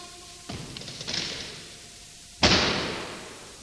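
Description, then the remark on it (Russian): A heavy bronze house door swings and then slams shut behind a young man with a loud, booming impact that rings out and fades slowly. A softer rumbling thud comes first. No one speaks. “Тяжелая бронзовая дверь захлопнулась за спиной юноши.”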